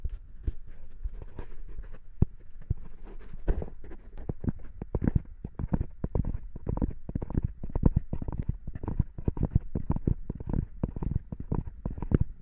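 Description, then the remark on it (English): A horse's hooves clip-clop in a steady, fast patter of muffled, low knocks that carry on without pause for the whole stretch, moderately loud, with no voices. “Do you hear the horse? I hear the horse.”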